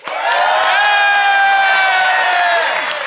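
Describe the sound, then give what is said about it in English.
A live audience cheers and applauds loudly and steadily to vote for one side of a festive debate, with high whoops and whistles rising over a dense wash of clapping for a few seconds. “A standing ovation.”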